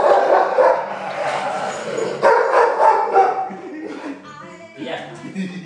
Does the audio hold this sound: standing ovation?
no